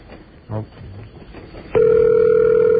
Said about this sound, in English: It's a little more high pitch than it used to be. That's maybe a mechanical ring.